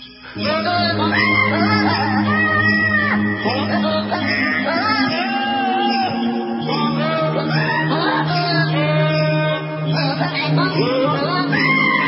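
Goats bleat a Christmas melody, their wavering, nasal cries pitched as tune notes over a steady backing of low sustained musical tones, continuous and fairly loud throughout.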